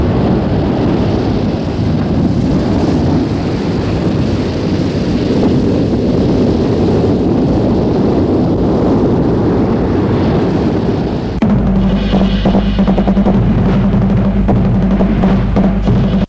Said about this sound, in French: Le vent est fort, gifle les visages et les gèle. Ils suivent la route qui longe la mer.